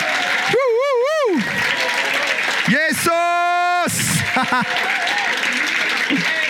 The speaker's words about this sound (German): Und wenn wir einverstanden sind, geben wir Jesus jetzt einfach nochmal einen tobenden Applaus. Ihm zur Ehre, weil er ist mächtig.